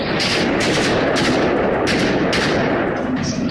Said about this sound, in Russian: Чудовищный теракт в Крокусе. Террористы хладнокровно расстреливают пришедших на концерт в упор женщин, детей, инвалидов.